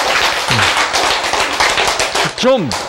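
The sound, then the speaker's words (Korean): An audience claps steadily for about three seconds, a dense patter of many hands, while brief rising and falling voice tones break through near the start and again toward the end. “크, 박수 쳐야지.”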